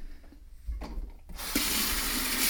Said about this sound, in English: Turn on the water in the kitchen here.